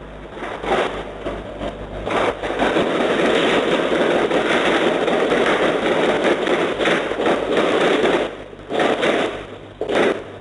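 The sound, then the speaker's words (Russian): A few sharp, cracking bangs that sound like gunshots stand out against a loud, rough wash of noise from a fight as attackers flee, recorded by a camera on a neighbour's house. There is no clear speech. “Звуки боя и бегства нападавших зафиксировала камера на соседском доме.”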